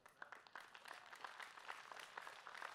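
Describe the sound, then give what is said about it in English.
Light, scattered golf clapping from an audience, a soft patter of polite clapping that stays subdued and steady without building into a loud ovation. “You're golf clapping because you don't have to pay for it.”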